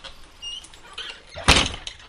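A door slides along and shuts with a single solid thud after a few quiet moments of faint background rustling; no one speaks.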